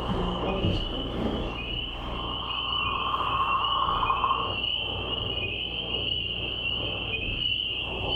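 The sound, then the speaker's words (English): A dense outdoor frog chorus with a steady high-pitched trill on top and a low, rough, snoring growl of leopard frogs rumbling underneath, continuous throughout with no voices. “What's the leopard frog is sort of growling on the bottom.”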